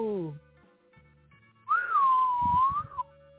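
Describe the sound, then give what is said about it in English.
A man whistles a single long, eerie note that rises, sags slowly and lifts again before cutting off, fairly loud, following a brief sliding vocal exclamation and faint murmuring. “He whistles in a macabre way.”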